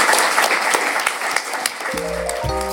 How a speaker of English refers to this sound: can I please get a round of applause for our three speakers?